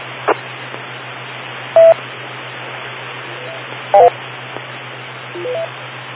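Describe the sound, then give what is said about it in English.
Radio repeater beep tones over steady static and a low hum: a single short beep, then a quick cluster of tones, and finally a brief rising run of notes, the AllStar beep following the standard repeater beep. “you'll hear the All-Star beep following the standard repeater beep”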